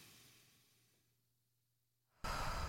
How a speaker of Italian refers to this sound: Quindi un bel respiro profondo con il naso. Via.